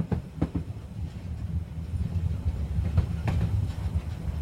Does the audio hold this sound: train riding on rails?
yes